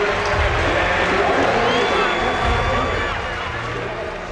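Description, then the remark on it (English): A large stadium crowd at the U.S. Olympic trials cheers Dan O'Brien home as he makes the U.S. Olympic team, in a steady, loud roar that holds for several seconds, with thin whistles cutting through the din before it eases slightly toward the end. “Let's let the crowd carry him home here.”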